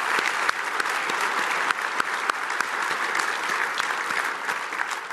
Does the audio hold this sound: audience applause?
yes